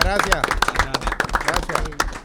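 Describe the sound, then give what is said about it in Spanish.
A crowd applauds the boys again with dense, steady clapping over a couple of seconds, mixed with lively voices calling out and talking over the claps. “Un aplauso nuevamente para los muchachos.”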